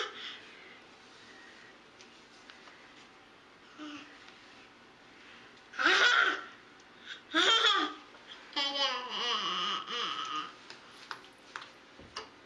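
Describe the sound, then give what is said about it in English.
A toddler of 17 and a half months babbles and giggles at a mirror in short, bright bursts, with quiet stretches between, then a longer run of excited, sing-song vocalizing toward the end. “17 and a half months, that particular infant.”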